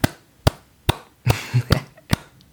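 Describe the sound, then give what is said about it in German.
A single person claps slowly and steadily in applause for the Dallas Cowboys' decision to part ways with coach Jason Garrett. About seven sharp claps are evenly spaced under half a second apart, with a brief rustling burst between two of them. “War mein mittlerer Applaus für die Entscheidung.”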